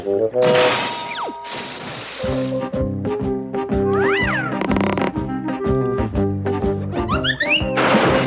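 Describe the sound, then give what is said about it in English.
A cat meows several times, loud, with rising and falling cries standing out over a busy, steady backdrop of other sounds and a few sharp noisy bursts. “My faithful cat was ever at my side.”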